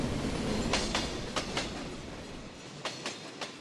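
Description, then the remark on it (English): A slow-moving locomotive rumbles past in Battle Creek, Michigan, in summer, with a steady low roar, punctuated by sharp metallic clicks from the wheels crossing rail joints in loose pairs. No one speaks. “With summer now here, the complex sounds of a slow-moving locomotive take me back to the wondrous time where music and voices flowed from waiting cars, factories buzzed, and a city sat patiently with the air smelling of cereal sweetness.”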